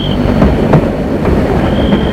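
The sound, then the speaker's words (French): An approaching train rumbles along the rails, a loud, steady low roar broken by periodic clacks of the wheels, with a thin high metallic squeal at the start and again near the end. No voices. “Fait de plus en plus vibrer les rails. Il continue à marcher. Il voit au loin deux grosses lunes blanches. Et ce bruit”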